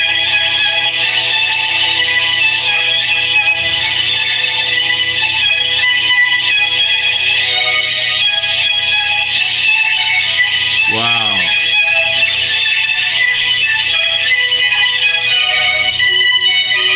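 A Verizon telephone ringback plays while a call connects: a continuous, tinny stream of tuneful music heard over the line, steady and fairly loud, with a brief swooping tone near the end.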